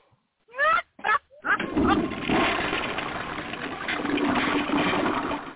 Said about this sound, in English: That really wasn't good. That didn't deserve a flush.